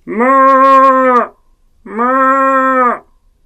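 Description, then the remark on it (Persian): Two long, steady moo-like calls, each about a second, with a short pause between, loud, sound like a human voice imitating a cow mooing. “منم گاو سیاه، دارم زیر بارون خیس میشم، در رو وا کن ننه پیرزن.”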